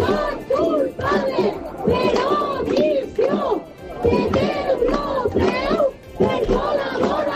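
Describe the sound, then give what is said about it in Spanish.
Relatives of victims of the deaths of 228 people protest in Valencia outside where European People's Party leaders are about to dine during the European PP congress, the loud crowd shouting slogans such as "culpable por omisión" in unison, many voices rising in rhythmic bursts with brief dips between chants, sustained throughout. “Estos son los gritos que están escuchando los líderes europeos.”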